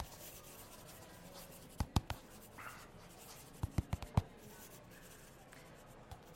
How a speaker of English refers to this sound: Okay, well, I'm going to get out some paper and pen and... Yeah. And scribble away.